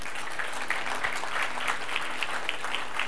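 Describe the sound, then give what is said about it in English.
An audience at a church service applauds as a clap offering to the Lord, many hands clapping together in a steady, even rhythm with a faint recurring pulse, moderately loud and sustained throughout, with no voices over it. “Stand up with me, and you can give the Lord a clap offering.”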